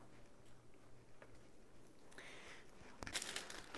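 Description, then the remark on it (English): Paper crinkles and rustles softly, growing busier and louder toward the end as birthday present wrapping paper gets crumpled up in a series of crisp, irregular crackles. “Birthday present paper is so cute. So cute. We throw this away.”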